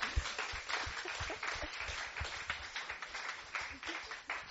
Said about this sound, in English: So I just want us all to give a little clap